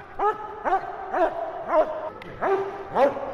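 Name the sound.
dog barking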